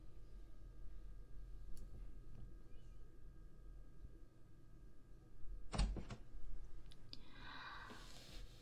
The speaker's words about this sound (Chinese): 宝贝，你开门了。